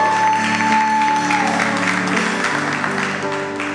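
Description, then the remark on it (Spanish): A church audience applauds loudly and steadily, a dense wash of clapping with sustained musical tones underneath throughout. “Y vamos, iglesia, un fuerte aplauso.”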